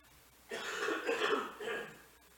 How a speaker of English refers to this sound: just one sec, I'm going to cough here and I don't want to do it in the mic.